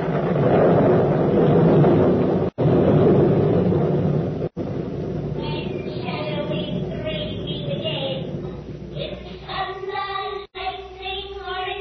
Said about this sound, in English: Now, what are the stage directions? A desert place. Thunder and lightning. Enter three witches.